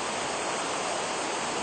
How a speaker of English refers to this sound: With over 275 waterfalls, there is nothing in the world quite like it. The falls lie along three borders, Paraguay, Argentina, and Brazil, and attract visitors from everywhere.